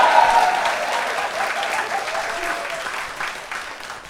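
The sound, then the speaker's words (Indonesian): A crowd applauds in a dense, steady wash of clapping that holds fairly loud for about four seconds, thinning slightly toward the end. “Nggak ada tepuk tangannya nih anjing.”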